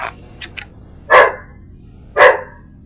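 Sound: angry dog barking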